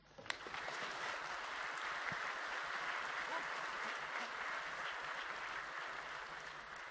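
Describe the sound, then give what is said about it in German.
A crowd applauds speakers introduced to present on NEDAP voting computers in Germany: a dense wash of many hands clapping that starts abruptly and holds at an even level throughout, with a few sharper individual claps standing out early on. “Einmal Applaus bitte.”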